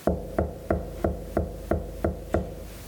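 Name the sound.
knocking on a door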